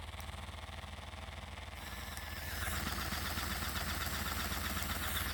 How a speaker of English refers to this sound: And then we have the sucking. Hear it? So that sucks and vibrates, first setting. And now for the thrusting.